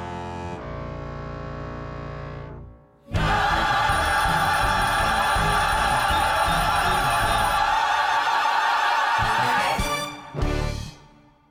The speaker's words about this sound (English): ending with the iconic Adams doorbell, that foghorn.